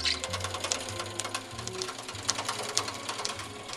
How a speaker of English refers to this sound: This is a National Sewing Machine. It's a Smythe-style sewing machine. All properly sewn, machine-sewn books are referred to as Smythe-sewn. It looks like a giant weaving loom with 5 large spools of thread at the top attached to 8 hooks and needles